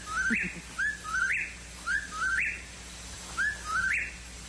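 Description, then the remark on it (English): A whippoorwill calls over and over, each clear, whistled three-note phrase rising at the end and repeating about once a second, against a quiet background with no talking. “And I suppose they are thinking, well, nobody knows what a whippoorwill is and may not know it's a bird.”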